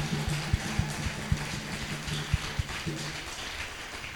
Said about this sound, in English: Yaoundé clap for Yaoundé. Applaudissez pour Yaoundé.